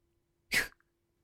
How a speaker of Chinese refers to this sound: 不过就是被我掐了下脖子，别以为干呕几下咳嗽几声我就能怜悯你，原谅你当年不告而别的事情。